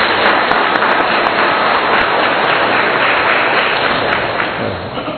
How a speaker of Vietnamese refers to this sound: Hân hoan chào đón nhau một tràng pháo tay nồng nhiệt trong buổi họp mặt hôm nay, thưa anh chị em.